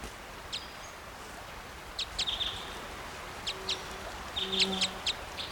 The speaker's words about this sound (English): Stop. Here's the female's flight call.